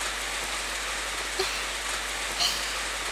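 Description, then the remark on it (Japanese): Steady rain patters on a large umbrella overhead, big enough for two people, at the entrance of Yumemi-tei, a dense, even hiss broken by a couple of louder individual drops. No voices. “ちょっと雨の中お体が濡れてしまっては大変です。私の傘の中へとどうぞお越しくださいませ。”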